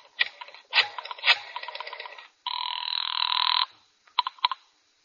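A telephone rings on the line of a call made from a phone booth outside a tobacco store, in rapid, rattling bell bursts, broken by a steady buzzing tone for about a second, then a few shorter rings. Fairly loud, with no talking.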